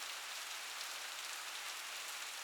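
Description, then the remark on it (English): Steady rain patters on a hard surface, a dense, even hiss of countless drops that holds constant throughout without pauses or voices. “Why rain? Seriously?”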